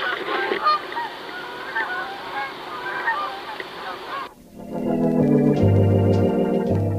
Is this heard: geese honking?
yes